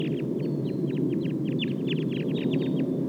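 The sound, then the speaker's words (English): A wild flock of about 11 birds calls in quick, overlapping bursts of high chirps and clucks, dozens of notes running steadily over a dense, constant low rumble. “Start recording the wild flock now.”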